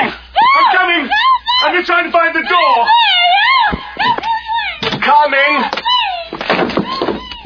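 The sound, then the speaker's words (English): A door creaks open slowly, its hinges letting out a long series of loud, wavering squeals and moaning groans that rise and fall for several seconds. “What's this? Another door.”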